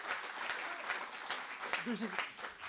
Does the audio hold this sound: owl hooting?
no